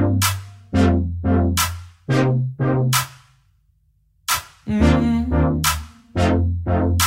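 A pop song intro plays loud and close: punchy, rhythmic synth or brass stabs over deep bass notes, a short pause, then the stabs return with fuller chords. No vocals.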